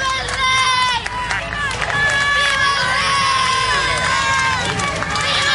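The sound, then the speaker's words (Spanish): A large outdoor crowd at the Plaza de Oriente shouts, boos and cheers continuously, booing members of the government and acclaiming King Felipe VI, many voices rising and overlapping in a loud, steady roar with sustained jeering and calls throughout. “Mientras que los miembros del Ejecutivo recibían abucheos, los asistentes a la Plaza de Oriente ponían en valor la figura del rey Felipe VI.”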